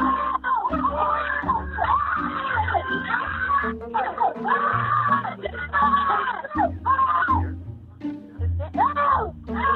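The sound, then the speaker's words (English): A crowd of children shrieking and yelling at full volume as an adult asks them to scream, their high voices rising and falling continuously over a steady low rumble for the whole stretch. “Keep screaming, guys. Keep screaming. I want you guys to scream as loud as you want.”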